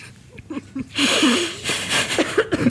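A loud, drawn-out yawn with a creaky, groaning voice that rises and wavers over about two seconds, broad breathy noise throughout, heard alone.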